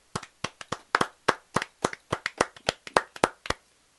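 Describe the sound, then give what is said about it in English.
Crisp hand claps, around seventeen sharp smacks in a loose, uneven rhythm over four seconds, fairly loud and alone with no talking. “Lots of fun with all that clapping.”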